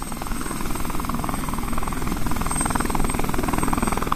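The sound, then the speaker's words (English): A small homemade experimental helicopter takes off, its rotor chopping in a fast, steady pulse over a loud engine drone that holds throughout, with no voices. “Hotchkiss native Bob Turner takes off in his homemade helicopter.”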